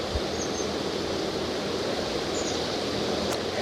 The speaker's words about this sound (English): It's kind of windy.